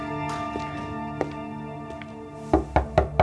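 Four firm knocks on the office door of acting FBI director L. Patrick Gray, knocked by Dean, counsel to the president, in a quick, even rhythm near the end, sounding over a soft, sustained musical drone with a few faint taps earlier.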